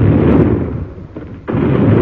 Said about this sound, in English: There they go again. They must be blowing that city of theirs to pieces.